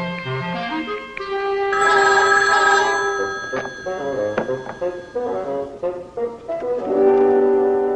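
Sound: telephone ringing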